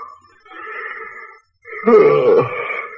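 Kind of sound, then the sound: human body sound, yawning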